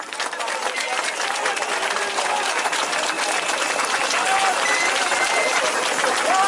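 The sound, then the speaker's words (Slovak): A large audience applauds loudly and steadily throughout, a dense wash of clapping with a few shouts and cheers rising faintly from the crowd. “Zatleskajte ešte viac.”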